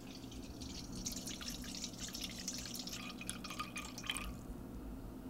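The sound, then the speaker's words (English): Water pours steadily into a bowl on a scale, 315 grams being weighed out for dough, a bright splashing trickle with small irregular drips, fairly quiet, with a low background hum and no talking. “So we're going to get 315 grams of water.”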